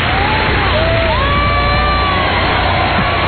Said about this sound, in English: now you hear the applause.